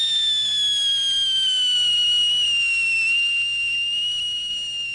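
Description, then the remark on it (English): A loud, steady high-pitched whistle of a firework at the kickoff of the 1985 KHNS public radio fundraiser, slowly sliding downward in pitch for several seconds with no talking, over a faint low rumble. “The fundraiser will continue through the rest of the week, but it's doubtful that it will get more exciting than when the big blast made a big blast.”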